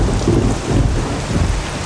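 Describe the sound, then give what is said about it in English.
Heavy, steady rain pours down at night without a break, loud, with a deep rumble underneath like distant thunder. No one speaks. “It's night, and Bill is trudging along in the rain.”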